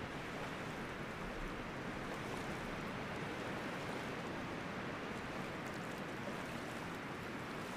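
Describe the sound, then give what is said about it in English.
Loch water laps and washes steadily, a soft, continuous hiss of gently moving water with no distinct breaks and no voices, holding an even level throughout. “Still, the lapping water of the loch was ever present.”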